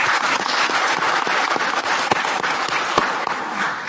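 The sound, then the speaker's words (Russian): Steady applause from an audience fills the room, a dense wash of many hands clapping at constant loudness, with a few sharper individual claps popping out of the crowd noise. “Аплодисменты вам.”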